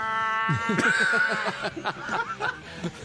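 Loud cat-like yowling and wailing, voices imitating mating cats to mock furries, breaking into rapid, pulsing chuckles that run for a few seconds.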